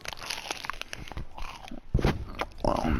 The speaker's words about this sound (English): munching on a fucking Rice Krispie again.